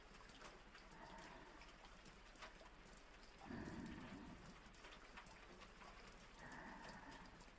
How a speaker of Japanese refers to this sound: 雨の音って気持ちいいよね。耳を澄まして聞いてると心が落ち着くっていうか、リラックスしてこない？私、雨の音好きだな。